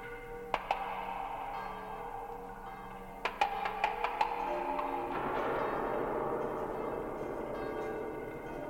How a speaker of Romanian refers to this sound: Zidarii încearcă glasul clopotelor vestind depărtările că e gata biserica. Câte clopote, Din voi alte biserici răspund, parcă ar fi pornit toate ca o turmă peste munți.